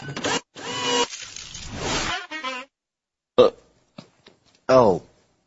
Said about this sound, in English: Excuse me. Why? I just burped. Sorry. Don't worry. I didn't notice.